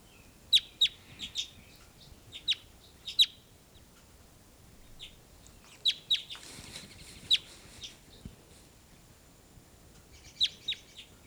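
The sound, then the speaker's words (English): Loud, sharp bird calls played back from a recording ring out in short bursts of two or three high notes, with pauses between groups, over a faint low background hum. “Just played her back, and here's your louder calls.”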